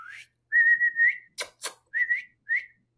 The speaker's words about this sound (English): Maybe somebody whistle.